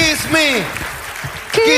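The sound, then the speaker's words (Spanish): An audience applauds for ICE Perú (International Company Education) in a steady, dense patter, with loud, excited voices and whoops rising over the clapping throughout. “Fuerte aplauso para ellos, ICE Perú.”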